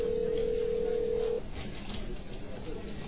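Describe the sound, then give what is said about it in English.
A single steady electronic ring tone comes through a narrow, tinny phone line as a call is placed to an embassy, holding for over a second before cutting off and leaving quiet line hiss. “Ah, oh, come on, hurry up, answer the phone already.”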